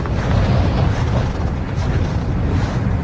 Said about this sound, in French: Il y a beaucoup de vent, hein. Il y a beaucoup de vent, là.